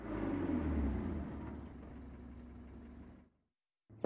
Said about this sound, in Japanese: ん？家の外に車が止まったか？ うわ、パトカーがうちの前で止まっとうよ。